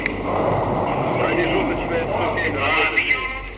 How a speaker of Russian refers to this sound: Команда зажигания. Двигатели выходят на режим предварительного.